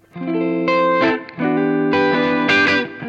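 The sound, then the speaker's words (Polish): A loud overdriven electric guitar rings through an amplifier, playing a few sustained chords with gritty, saturated harmonics and brief pick attacks between them, with no talking. “Strasznie łatwo się przesterowuje.”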